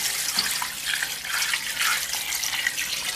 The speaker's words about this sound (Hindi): और साथ ही इसमें आप ऐड कर लेंगे 8 cups ऑफ वाटर।